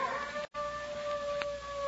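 A neighbor's dog howls in a long, steady, sustained wail with a clear tonal pitch, broken by a brief gap, set against a hissy background with no one speaking.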